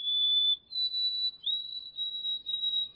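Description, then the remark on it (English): A white-throated sparrow sings its clear, pure whistled song: a long opening note, a step up to a higher held tone, then a series of repeated whistles, heard alone. “White-throated sparrows are shy birds, but on warm days in late winter and early spring, the spirit comes upon them and the thickets erupt into song.”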